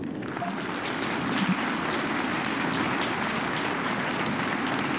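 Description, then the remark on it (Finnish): Steady applause from a crowd for someone who has told them what he read in the newspaper, a dense crackle of many hands clapping at an even, fairly loud level for the full five seconds, with no voices standing out. “Aplodit, kun kerroit meille, mitä olet lehdestä lukenut”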